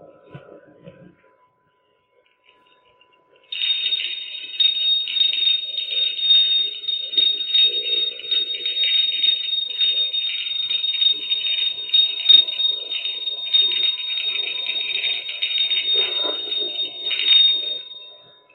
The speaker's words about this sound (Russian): продолжает еще звонить колокольчиком, там звон еще идет